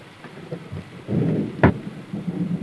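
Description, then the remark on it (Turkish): Heavy rain hisses steadily, joined by a low rumble of thunder that swells midway, with one sharp crack standing out before the downpour continues. No one speaks. “Amma yağmur yağıyor ha.”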